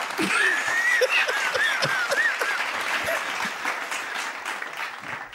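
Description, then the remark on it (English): A crowd applauds steadily and loudly for several seconds, with dense clapping mixed with whoops and high cheering shouts rising above it. “Crowd's going wild.”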